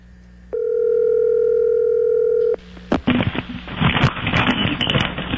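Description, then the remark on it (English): A telephone line sounds a steady, buzzing electronic tone for about two seconds as a call is placed to Tiger Woods, then a sharp click gives way to loud, crackling line static with no voices. “Let's give Tiger Woods a call.”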